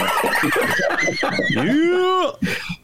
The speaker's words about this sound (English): Yeah! I love the Dolphin sound, man. Only in the Ben Jarofsky Show, the Dolphin sound.